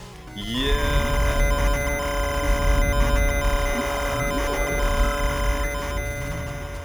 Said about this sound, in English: Oh, hold up a minute, lads. This phone's ringing.